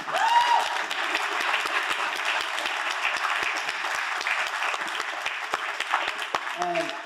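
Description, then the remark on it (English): Sustained audience applause for Nicholas Sarwar, former national chair of the Libertarian Party, fills the room, a dense, steady clatter of many hands clapping for several seconds, with a faint voice briefly cutting through near the end. “Everybody give a round of applause for Nicholas Sarwar.”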